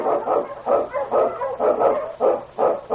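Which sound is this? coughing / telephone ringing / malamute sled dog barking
malamute sled dog barking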